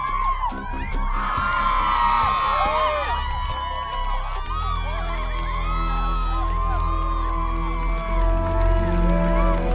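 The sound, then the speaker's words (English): A large crowd cheers loudly and continuously for a man stepping out of a car, full of overlapping shouts and whoops that rise and fall in pitch, with a steady low rumble underneath and no break for the whole stretch. “The crowd is loving him.”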